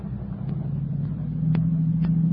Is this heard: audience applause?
no